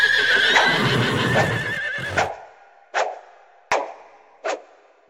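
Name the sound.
horse neighing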